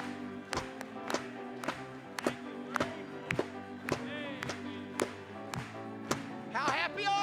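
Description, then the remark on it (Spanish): An audience claps for the Lord in a steady, even beat, about two claps per second, over sustained organ-like chords, with a few brief voices rising near the end. “Vamos a aplaudirle una vez más.”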